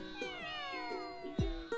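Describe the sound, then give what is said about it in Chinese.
Several cats meow at once at feeding time, their overlapping drawn-out cries rising and falling in a steady, insistent chorus, with a couple of sharper, louder yowls toward the end. “等我记低先，灵活师兄嘅喂猫地点。”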